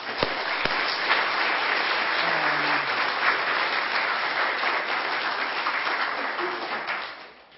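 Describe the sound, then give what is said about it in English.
Sustained applause from an audience, steady and dense for several seconds before tapering off at the end, with a brief murmur of voices underneath. The applause is for the fellowship committee that planned the evening gathering. “And then a big thank you and a round of applause for the fellowship committee that obviously planned it all and made it all come together.”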